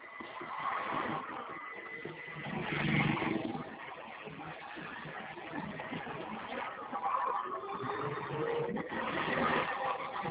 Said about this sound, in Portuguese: Peraí, tô olhando aqui, eu tô dirigindo. Oi? É que eu estou dirigindo. Aguarde um minuto.